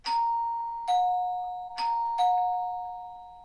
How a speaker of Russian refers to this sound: Парень пришел на 3 минуты раньше назначенной встречи, поэтому он отстоял положенное время и позвонил в дверь.